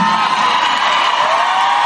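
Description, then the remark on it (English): A man yells loudly and without a break, one harsh, strained shout sustained for about two seconds, raw, with no other speech around it. “He's been yelling for a while.”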